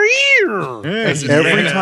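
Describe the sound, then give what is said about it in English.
A person's voice mimics a yowling cat, producing a loud, drawn-out wavering wail that rises and falls, followed by a second, rougher yowl, with no other sounds. “you know what else they played too often was the sound of a cat going.”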